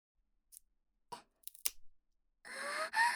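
A few sharp dry clicks and cracks, then a louder rasping, tearing crackle lasting under a second as disposable wooden chopsticks are pulled apart and split cleanly. No voices.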